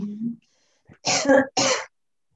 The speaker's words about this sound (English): how come we can hear you sneeze?